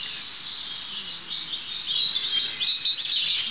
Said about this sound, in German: So, wir haben die 3 Rotkehlchen jetzt hinter uns gelassen und hier sind wir jetzt schon beim 4. Dahinter die Kohlmeise.